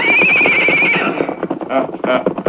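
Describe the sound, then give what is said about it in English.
A horse whinnies loudly with a wavering high call, followed by a run of quick, uneven hoof thuds and clatter, as if the animal is stepping off, as a man is put on his horse and moved along. “Get him on his horse. Move him along, boys.”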